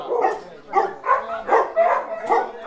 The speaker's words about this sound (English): On a 3.5-acre plot of grassy land in West County, about 20 rescue dogs greet visitors to their temporary home.